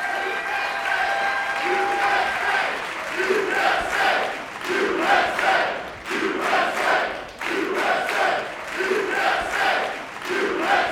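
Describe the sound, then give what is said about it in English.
A crowd applauds steadily with dense, continuous clapping, mixed with loud cheers and whoops rising and falling throughout, as Katie Nolan, Heather O'Reilly, Becky Sauerbrunn and Ali Krieger are welcomed to the stage. “All right, keep clapping.”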